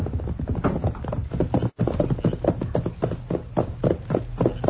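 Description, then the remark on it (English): Horse hoofbeats approach, clip-clopping in a steady, rhythmic pattern, fairly loud, with several horses seemingly moving together and no voices. “Now I can hear those hoofs?”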